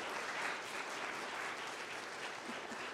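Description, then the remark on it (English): Steady audience applause for a cast of people fills the whole stretch, a dense patter of many hands clapping at an even, sustained level with no talking over it. “And I have a wonderful cast of people, if y'all would give them a round of applause, just knowing.”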